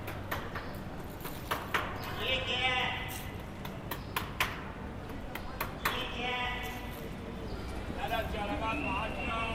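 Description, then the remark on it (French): Horse-drawn carriages roll along a street in Dakar, hooves clip-clopping in sharp, uneven knocks, while voices and calls rise and fall in the busy background. “un roulement des calèches à Dakar”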